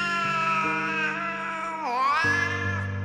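A cat cries at night in a long, drawn-out, loud yowl, its wailing pitch dipping and bending midway before rising again. It carries on without pause, with no one talking.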